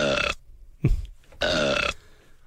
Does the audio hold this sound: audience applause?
no